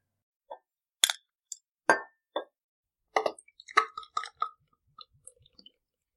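A glass bottle of IPA beer is opened: a few light clinks and handling noises, a sharp pop with a brief hiss, then a scatter of small taps and clinks fading out.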